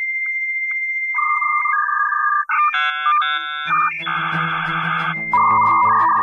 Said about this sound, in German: dass wir fast vergessen haben, wie langsam und umständlich das damals alles war. Rechner hochfahren, Modem anschließen und...